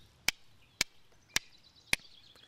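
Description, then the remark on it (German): Five sharp, bright strikes of flint against stone, showing how Stone Age people made fire, at a steady, unhurried pace, each a crisp click followed by a brief high hiss of sparks, with nothing but quiet between. “Wie haben die Steinzeitmenschen damals Feuer gemacht?”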